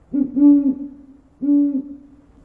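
Two low, mellow owl hoots, the first longer and slightly wavering, the second a shorter steady call after a brief pause, clear with no voices present.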